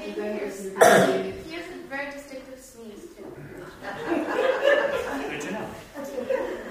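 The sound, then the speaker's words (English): A single sharp, throaty cough bursts out near the start, followed by voiced, chuckle-like sounds and then indistinct talking that continues to the end. “So you were able to tell my distinctive cough.”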